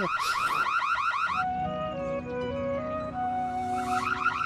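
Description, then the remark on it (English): A loud electronic alarm cycles through patterns, first a rapid rising whoop, then steady alternating tones, then the whooping returns, blaring continuously with no voices. “Hey, an alarm!”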